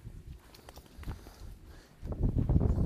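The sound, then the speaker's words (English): Hooves of a horse ridden by a woman on a beach near a lighthouse thud softly on sand in an uneven walking rhythm, growing louder in the last second, with a low rumble of wind behind them. “So, lady riding a horse on the beach there. She came up to the lighthouse, turned around and went back.”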